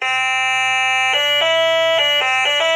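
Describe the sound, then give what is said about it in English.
A stylus-played pocket electronic keyboard, an old-school instrument played by touching a little metal-tipped pen on a wire to spots that look like keys, gives a loud, buzzy, reedy tone: one long held note, then a quick run of short notes stepping between a few pitches, with no voices. “There's a stylus, like a little pen attached to a wire with a little metal tip, and you touch the little spots that look like keys.”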